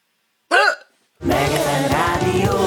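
A single short, sharp vocal hiccup sounds up close, followed by a brief silence before a loud, dense burst of music begins and continues to the end.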